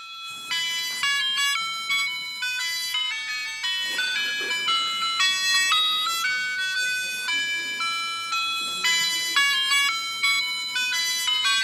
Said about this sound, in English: What do you think that is? Ice cream truck. That's exactly right. When we were little, most of us, we'd hear that, we'd just go, whew, right? That was solid temptation, an ice cream truck.